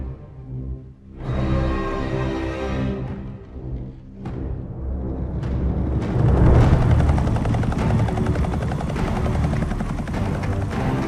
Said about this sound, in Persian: ناوه USS روزولت دریای سیاه. کاپیتان آماده باشید، یه هلیکوپتر در فاصله 15 گره نوک عرش هست